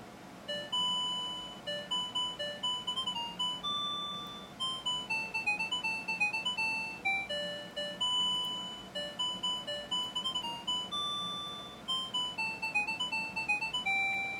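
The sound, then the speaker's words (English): A digital alarm clock going off at 5:35 a.m. plays a bright, chiming electronic melody, a rapid string of high tinkling tones repeating in steady bursts with no talking over it. “Now, who doesn't want to be awakened by that?”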